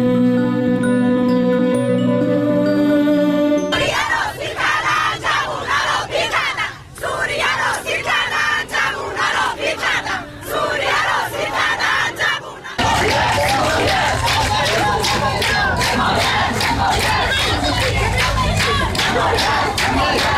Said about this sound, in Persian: در ویدیوهای منتشر شده بر روی شبکه‌های اجتماعی، فریادهای آنها یا در میان جمعیت شنیده می‌شود و یا تاریخ و محل تهیه ویدیو را اعلام می‌کنند.